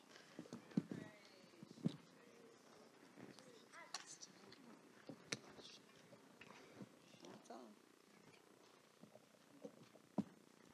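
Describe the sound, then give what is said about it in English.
A cat purrs steadily and softly, a low continuous rumble broken by occasional sharp taps and rustles, with faint indistinct voices in the background. “So, that little kitty stole that much time.”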